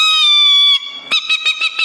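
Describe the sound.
A woman agronomist imitates an owl call: a long, shrill held cry, then a rapid run of five short, rhythmic hoots. Loud and clear, with no talking.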